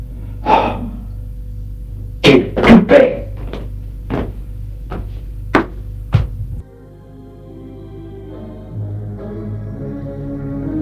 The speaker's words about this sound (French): Il ferme la porte.